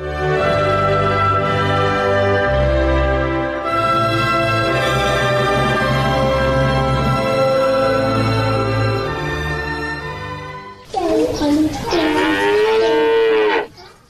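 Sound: cow mooing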